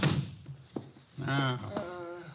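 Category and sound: household object, door being shut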